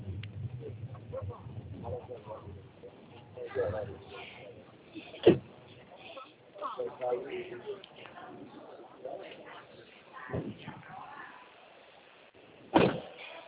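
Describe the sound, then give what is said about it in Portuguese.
Someone shifts around inside a car while getting out of it during a phone call, with rustling, a low rumble and a few sharp thumps like a door opening and closing. Faint voices murmur in the background. “eu só vou descer do veículo seu carro agora, eu falo com você no telefone.”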